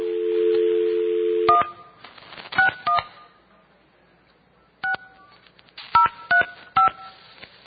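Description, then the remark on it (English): A steady dial tone gives way to a series of short touch-tone beeps as a phone number is keyed in, the paired-pitch tones coming in quick bursts separated by brief pauses. “Okay, now we know their whole phone number.”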